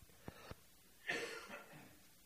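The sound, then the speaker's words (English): A single harsh cough from a person who has been sick this week bursts out after two tiny clicks, then trails off into a quiet breathy tail; no one speaks. “I was sick this week too, so excuse my coughing.”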